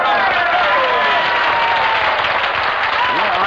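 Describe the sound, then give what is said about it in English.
A steady burst of audience applause, dense and continuous clapping from a sizable crowd, fairly loud, lasting a few seconds without letting up, following a contestant saying she is from Brooklyn. “I fail to see why the location of birth should be met with applause.”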